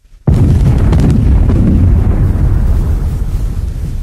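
Artillery fire erupts with a sudden loud boom, followed by a sustained roaring rumble with a few sharp cracks of further shell blasts in the first second or so, and no voices; four shells fired on command, aimed two gradations left.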